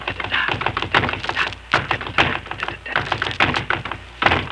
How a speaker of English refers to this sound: I was just punching the bag and listen to this.